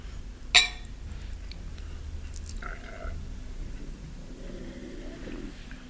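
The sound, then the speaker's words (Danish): Glasses clink once in a toast, a bright, ringing chime near the start. Afterward there is only quiet background noise and faint soft rustling. “Skål, og skide være med det.”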